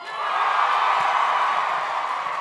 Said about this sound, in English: They flew all the way here just to do this. Yeah, they're back there right now listening. So cheer louder.